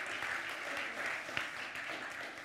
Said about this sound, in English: Give the Lord a hand clap before you sit down.